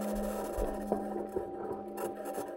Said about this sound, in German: Genau so klingt das Marsmobil der 2020 Mission Perseverance Rover, den die NASA auf den Mars geschickt hat, um dort entweder Spuren von unterirdischen Wasservorkommen zu entdecken